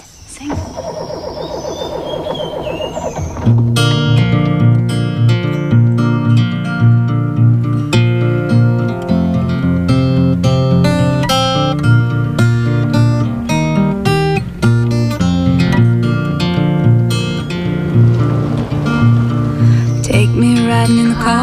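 A car engine rumbles and starts up for a few seconds, then a bright, steady folk song tune kicks in and plays on at an even volume with a lively rhythm.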